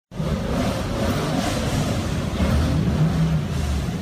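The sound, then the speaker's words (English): About 70 rally car engines rumble and rev steadily on Main Street in Christiansburg, Virginia, as the cars line up and take off one by one, a dense low roar with a brief swell of acceleration partway through, and no voices. “Main Street in Christiansburg, Virginia was shut down so 70 rally cars could line up and take off one by one on the first day of the event.”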